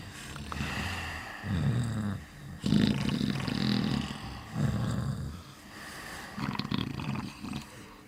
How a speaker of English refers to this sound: The room was full of low wooden beds, all occupied by two or three very dirty, sleeping children. The sound of snoring filled the rancid air.